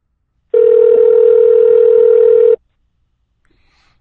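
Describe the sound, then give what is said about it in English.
A steady electronic telephone ringback tone of an outgoing phone call, made instead of a video call, sounds for about two seconds, loud and clear, then stops into silence before a second tone begins at the very end. “Phone call instead.”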